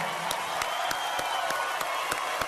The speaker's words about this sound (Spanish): a todos esos jóvenes valientes venezolanos que salen a la calle, a todos los muchachos que hemos perdido hasta este momento. Yo quiero un fuerte aplauso para ellos, señores.